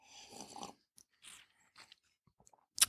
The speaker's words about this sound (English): Let me take a sip here.